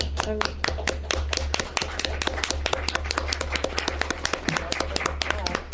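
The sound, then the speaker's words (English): An audience applauds steadily, many hands clapping in a dense, irregular patter of sharp slaps that holds at an even loudness for the whole stretch. “All right, stop clapping.”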